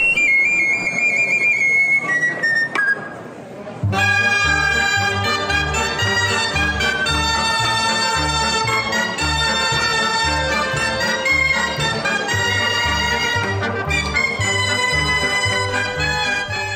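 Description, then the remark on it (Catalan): Sardana music plays with no talking: a thin, high piping melody opens, then a full band enters with bright reedy tones over a steady, bouncing bass pulse. It is the piece played at the 2023 premiere of the children's sardana group Ocells de Bosc, recorded by Emili of Ardit Produccions. “Elles són membres d'Ocells de Bosc i estàvem escoltant ara, i estem sentint encara, aquest so que va sonar a l'estrena el 2023 d'Ocells de Bosc, que l'Emili d'Ardit Produccions ens va gravar”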